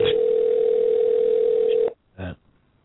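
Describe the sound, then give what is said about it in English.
A telephone ringback tone on an outgoing call sounds as one steady, loud electronic hum for about two seconds, then cuts off into near silence, broken by a single short, muffled burst. “He doesn't pick up when he doesn't recognize the number.”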